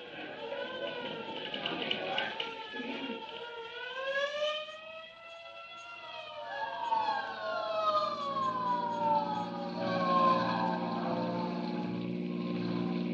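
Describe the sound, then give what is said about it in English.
The siren of a hook and ladder fire truck on the street wails loudly, its pitch sweeping up and falling back in long glides, while a low, steady engine-like drone rumbles underneath for the second half. “Say, there's a hook and ladder on the street right now.”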